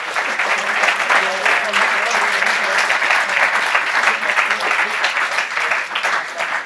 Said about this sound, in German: Erstmal ein Applaus soweit für das erste Projekt des Teams.